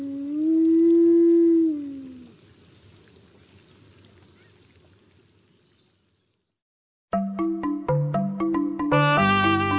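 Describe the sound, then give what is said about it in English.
A wolf lets out one long, sustained howl that swells and slides in pitch, fading into a quiet outdoor hush before a burst of plucked music begins. “Let's go out with the wolf.”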